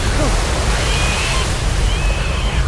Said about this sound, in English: What's that? What? I hear something. It sounds like a wave.